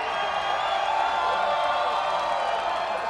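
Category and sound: crowd, crowd cheering and whooping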